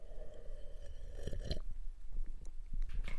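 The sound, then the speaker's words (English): A wet slurping sip of Mystic Monk Coffee, Tanzanian Peaberry flavor, peaks in the middle, followed by soft swallowing and small mouth clicks over a low rumbling background. No one speaks. “If you guessed Mystic Monk Coffee, you are correct.”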